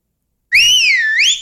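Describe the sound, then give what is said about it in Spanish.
A single loud, high-pitched wordless whistle-like call rings out for about a second, its tone wavering down and then rising again, with no talking around it; a Maya villager's call in the jungle of Mexico's Yucatán Peninsula, used between walkers to gauge the distance between them. “Es un diálogo sin palabras, solo ruidos agudísimos, sin significado, que se esparcen y les permiten saber la distancia que hay entre ambos.”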